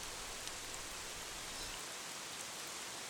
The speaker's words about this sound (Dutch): Goed, het regent hier in de Achterhoek nog altijd.